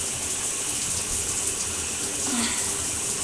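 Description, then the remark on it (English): Shower water runs from a shower head in a steady hiss with a brief gurgle near the end. It keeps a dense, even spray throughout, and no one speaks. “But I have to admit, it's only half the reason I'm getting in the shower right now.”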